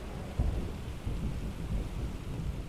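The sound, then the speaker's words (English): A steady wash of summer thunderstorm rain patters and drums on a skylight, with low rumbling thunder rolling underneath throughout. No voices. “I have woken to a summer thunderstorm, and its tinny patter on our skylight offered not just relief from days of heat”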